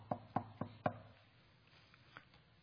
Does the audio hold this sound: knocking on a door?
yes